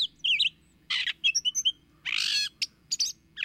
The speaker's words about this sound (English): Gray catbirds are improvisers in the foods they eat and in their ever-changing songs.